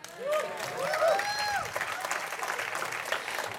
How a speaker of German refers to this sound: Hey, wo ist der Applaus?